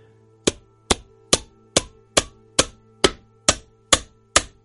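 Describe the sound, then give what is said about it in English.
Ten sharp, evenly spaced hammer blows driving nails in a crucifixion on the hill of Golgotha ring out in a steady rhythm, each a loud crack with a brief decay, over a constant low humming drone. No one speaks. “The sound is sharp, final. Each strike echoes deeper than the ground beneath your feet.”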